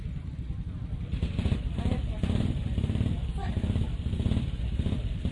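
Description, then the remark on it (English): A motorcycle engine runs steadily, its low, throbbing rumble continuous throughout, with indistinct voices murmuring in the background. “If you've got your machines running, can you switch them off for me? Because the microphone picks it up.”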